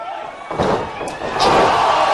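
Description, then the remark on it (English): A sharp, slapping wrestling super kick impact, caught under the arm, cracks out over steady crowd noise, followed by a second hit as the crowd swells louder. “Super kick. Caught him under the arm, but the damage was done.”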